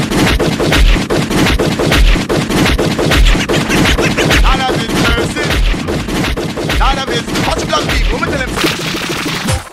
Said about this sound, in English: So could I hear some gunshot, gunshot, gunshot?